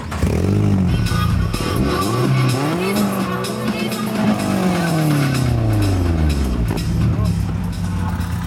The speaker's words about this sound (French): Rugir le moteur. Ouais, on aime bien. Faut que ça fasse du bruit.